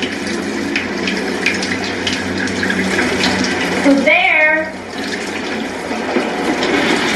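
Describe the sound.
Shower water runs steadily throughout as a constant hissing spray while a woman showers at a friend's home in Youngstown, and partway through she swings the shower door open and calls out "Who's there?" over the running water.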